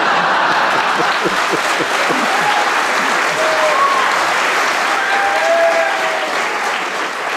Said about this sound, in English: I think, to be fair, because the audience loved it, they gave a big round of applause,